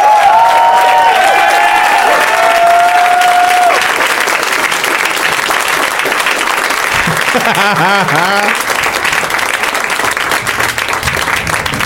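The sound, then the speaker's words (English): A large crowd applauds loudly and steadily for about twelve seconds as guests come on stage for round two of the Tournament of Championships, dense clapping mixed with cheers and whoops, with a few brief vocal shouts rising above the sustained roar. “I was telling them backstage that the applause, like for listeners, goes on for a really long time because the guests, they're backstage kind of enjoying each other.”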